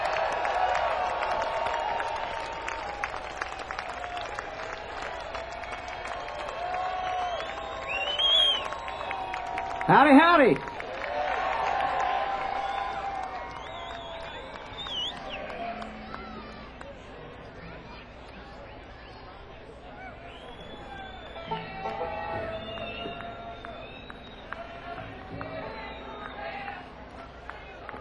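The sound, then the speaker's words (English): A concert crowd in Charm City claps and cheers steadily in a dense wash of applause for the next act, with a brief louder burst around the middle, then gradually thins out as a man's voice greets them. “Boy, sound like y'all are primed up and ready to go.”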